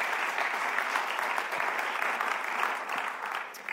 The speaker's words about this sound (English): Thank so let's a big round of applause